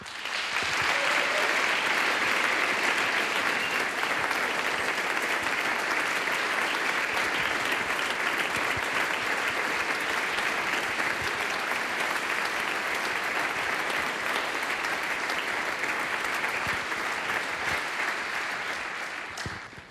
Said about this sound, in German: Danke für 30 Jahre Kapellmeister bei uns in Pertschinz. Danke, und das ist dein Applaus.